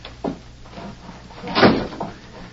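A door is shut with a solid thud, preceded by a brief handle rattle and followed by a softer knock as it settles.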